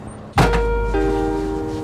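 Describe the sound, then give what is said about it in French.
The cab door of a snow groomer shuts with a single solid thud at 5 a.m. as the groomer leaves its hangar at the bottom of the ski slopes, and a steady mechanical engine hum carries on afterward, shifting slightly in pitch partway through. No voices. “Ok, tip top, et puis on peut fermer la porte.”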